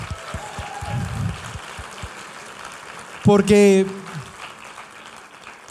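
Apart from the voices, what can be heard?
audience applause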